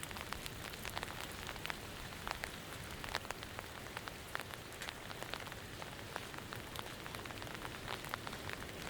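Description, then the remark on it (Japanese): Steady rain patters on a hard surface, with dense, irregular droplet ticks spread evenly throughout at a moderate level, on an ordinary rainy day on the way home. No voices are present. “今日普通の雨の日で普通の帰り道だったけど”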